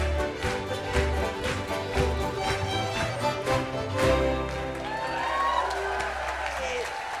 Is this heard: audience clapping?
yes